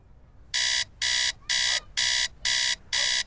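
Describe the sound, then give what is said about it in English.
An alarm clock rings in six loud, evenly spaced electronic beeps, each a sharp harsh tone about a quarter second long, repeating steadily with no voices, as a young man lying on a bed throws back a jacket covering his head and hits the clock. “A young man throws back a jacket covering his head and hits an alarm clock.”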